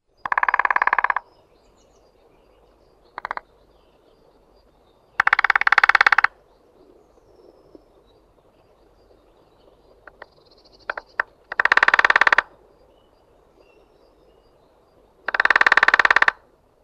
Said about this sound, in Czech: Slyšeli jsme bubnování nejmenšího z našich šplhavců, strakapouda malého. Kvůli své velikosti není totiž o moc větší nežli vrabec a strakatému zbarvení je často nazýván stráčkem. Jeho bubnování je oproti ostatním strakapoudům rychlejší